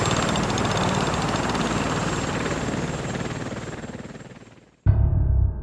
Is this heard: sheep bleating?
no